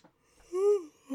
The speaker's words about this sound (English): I'd appreciate not yawning too, but you know, who knows when that'll happen.